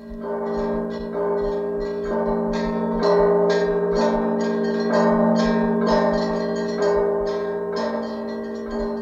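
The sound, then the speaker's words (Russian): Copper church bells ring over Moscow in a steady peal, a fresh stroke about once a second over a rich, humming sustain that fills the air, loud and resonant, with no voices. “Звон медный несется, гудит над Москвой.”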